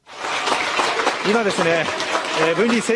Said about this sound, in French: Applaudissements nourris dans la salle de la mission Hayabusa 2 au centre de l'agence spatiale japonaise JAXA.